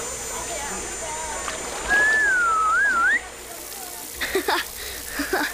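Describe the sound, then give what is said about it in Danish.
A person whistles to call a flying learning robot, a single wavering, rising-and-falling phrase lasting just over a second, loud, over a faint hiss; brief voice-like sounds follow afterward. “Når jeg fløjter, så kommer du.”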